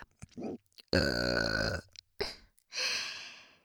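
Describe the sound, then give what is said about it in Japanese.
A loud, drawn-out burp lasting about a second, with short breathy sounds before it and a long airy exhale afterward. “ゲップもしてもらえて幸せですね。”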